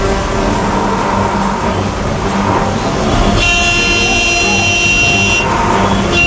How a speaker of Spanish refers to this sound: Por la tarde son pocos los que tienen las ganas de esperar que la intensa fila de autos avance.